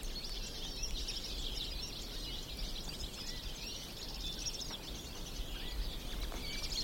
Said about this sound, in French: Et tous ces oiseaux qui chantent à vos oreilles.